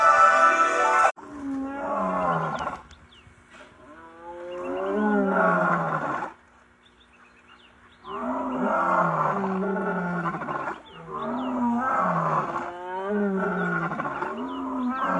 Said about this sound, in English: Let's listen to the roaring of a male lion. And this is what the men sound like. It says they wrath. It's like this.